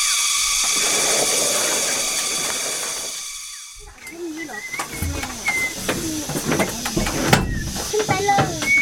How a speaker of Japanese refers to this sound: 今日はセミシグレにあふれるお寺にやってきました。